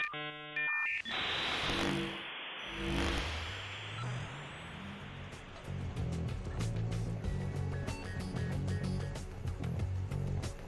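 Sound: dial-up modem connection sound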